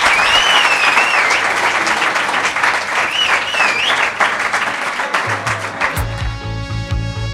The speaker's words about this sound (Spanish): Un aplauso. Gracias.